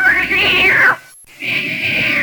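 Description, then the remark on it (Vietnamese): A cat meows twice, loud, each call a drawn-out rising and falling wail with a brief pause between them. “Con mèo khốn kiếp.”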